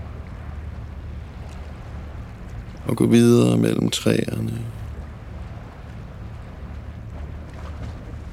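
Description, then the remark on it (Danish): Steady strong wind and rolling sea at a beach fill the whole recording as a continuous low rumble, with a voice speaking briefly in the middle over the top. “Som står her i den hårde vind og det salte vand.”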